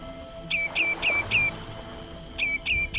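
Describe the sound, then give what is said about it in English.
Migratory birds chirp at Singapore's Sungai Buloh Wetland Reserve in quick, repeated high-pitched notes, a burst of four followed by a pause and then three more, clear over a faint steady outdoor hum. “Migratory birds here at Singapore's Sungai Buloh Wetland Reserve have flown halfway across the globe to escape from the harsh winters in the Arctic and North America.”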